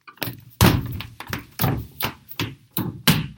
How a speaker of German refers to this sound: Mit leisen, aber schnellen Schritten rannte sie die knarrende Holztreppe hoch.